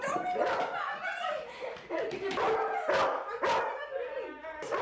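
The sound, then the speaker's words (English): A dog barks and yips excitedly in a playful burst inside a house as a teenage girl plays with it, several sharp barks scattered through, with a few whimpering yelps and some voices in the background. “Sarah stands against a wall and watches a teenage girl play with a dog.”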